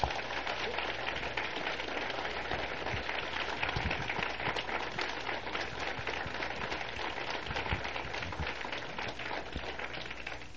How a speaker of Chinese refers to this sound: 我们很谢谢他们今天的一些诗歌，我们再次热烈的掌声好吗？